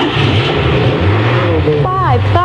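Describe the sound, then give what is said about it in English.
Racing cars at the Chevron Grand Prix roar in a loud, continuous engine drone, with high-pitched engine whines sweeping sharply up and down as cars rev and speed past near the end. “Sounds of the Chevron Grand Prix.”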